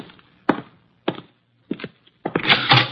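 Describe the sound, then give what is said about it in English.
Knocking at a door: three solid, evenly spaced raps, then a louder, rattling burst of knocks at the end. No voices. “The door, Archie.”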